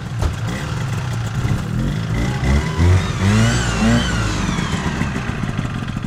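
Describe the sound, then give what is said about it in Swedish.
Several racing car engines roar and rev loudly during the first heat of a race, their pitch climbing and falling over a steady rumbling drone, with no voices heard. “Nu är första heatet klart och pastorn har motorproblem.”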